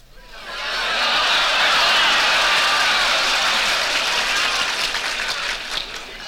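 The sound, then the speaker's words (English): A large crowd in Texas applauds loudly as President Kennedy is presented with a 10-gallon hat, the dense clapping swelling up within the first second and holding steady for several seconds before easing slightly at the end, with no speech over it. “Mr. Kennedy is presented with a 10-gallon hat, and the crowd wants him to put it on.”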